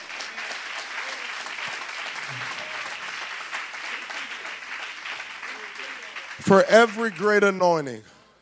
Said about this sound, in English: Oh, can you clap unto the Lord?